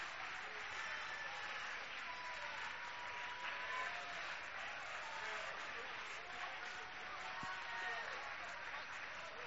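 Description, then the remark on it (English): An audience standing and applauding in thanks to God: a dense, sustained wash of clapping with mixed voices and cheers blended in, holding at an even loudness throughout. “A rounding applause and a thank you for what God has done in our lives, in our families, and in our church.”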